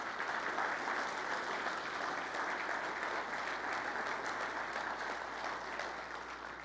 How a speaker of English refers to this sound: So can we just give a round of applause to all these youth?